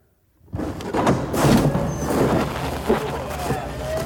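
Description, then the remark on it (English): After a brief silence, a door is opened by another man to let someone out after 30 minutes inside, bringing a sustained scraping rumble with a few heavier knocks, lasting several seconds before settling. “I'm going to have him open up the door.”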